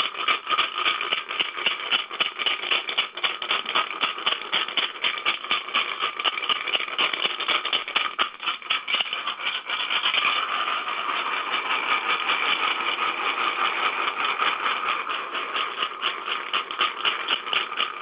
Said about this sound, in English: So I'll pull it away from the phone because it's a pretty intense rattle.